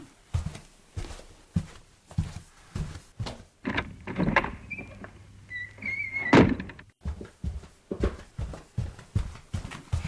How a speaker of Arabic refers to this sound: نعم، ابن حلال ذكرناه وها هو قد وصل. حسنا، سوف أفتح له الباب.